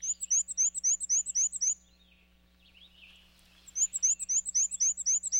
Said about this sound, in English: But they breed in North America's deciduous forests, where males sing a repetitive, high-pitched, wheezy, wheezy, wheezy song, a little bit like a squeaky shopping cart.